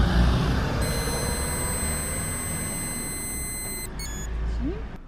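During an alcohol check of a motorcycle rider, a breathalyzer gives a steady, high-pitched electronic tone for about three seconds while he blows a continuous breath into its tube over a low background rumble, then stops with a couple of brief chirps.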